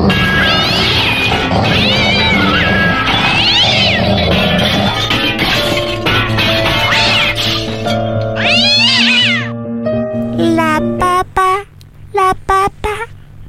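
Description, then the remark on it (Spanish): A cat meows loudly and repeatedly, drawn-out wavering cries that end in a burst of short, sharp meows over a steady low background hum. “el gatito, el perrito, todos juntos hoy día, las mascotas y el festín.”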